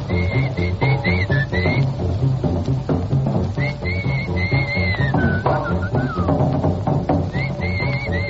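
A clear, bright whistled melody on a record rides over a full band with steady bass and drums, the tune sliding between notes in short phrases throughout, loud and upfront.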